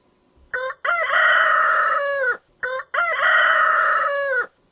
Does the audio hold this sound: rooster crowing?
yes